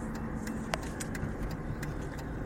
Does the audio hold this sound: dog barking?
no